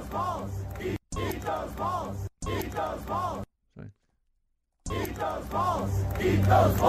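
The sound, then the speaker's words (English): A huge crowd in America chants loudly in rhythmic bursts of many voices, first "USA, USA" and then "eat those balls, eat those balls," breaking off into a brief silence and then starting up again with growing intensity. “Someone was still doing a USA, USA. Then they changed it to eat those balls, eat those balls.”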